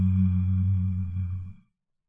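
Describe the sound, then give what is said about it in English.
A soft, low, steady hum from a human voice holds one warm pitch for about a second and a half, then fades out on the end of the breath into silence. “And now let it out with a very soft, warm hum.”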